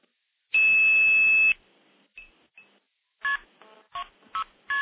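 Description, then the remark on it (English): A loud steady dial tone holds for about a second, then a couple of faint short beeps, followed by a quick, evenly paced run of multifrequency dialing tone bursts on a telephone line, after dialing KP2602 start and stacking trunks using a phone's touch tone pad on the terminating side. “So I'm going to dial KP2602 start, and that'll give me a dial tone.”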